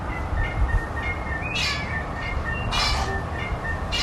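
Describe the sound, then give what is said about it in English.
A little wattlebird gives harsh, raspy call bursts, two main ones a second or so apart and a third starting at the end, over steady low rumbling background noise and faint thin chirps. “It's a beautiful bird, the little wattle bird.”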